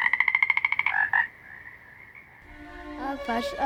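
A frog croaks in a fast rattling burst of about a dozen pulses, then gives a longer drawn-out call, with more croaking rising again near the end. Fairly loud, no talking.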